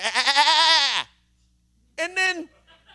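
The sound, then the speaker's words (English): A small goat lets out a loud, wavering alarm bleat lasting about a second, then after a short pause gives a second, briefer bleat, both clear with no other sounds. The goat is raising the alarm on seeing people with guns. “Nobody wants to shoot him, and he will be around the really pretty goat, and when he sees anybody, and this is as goofy as it gets, anybody, literally, you and me with a gun, the goat does what a good alarmist would do.”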